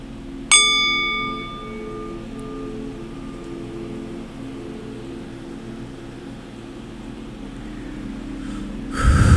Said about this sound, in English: So I'm realizing you need special mics for these sound bowls to hear the residue when you sweep them, when you go around the bowl, because I'm not hearing it, but it's okay.